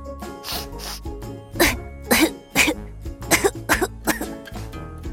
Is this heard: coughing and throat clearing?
yes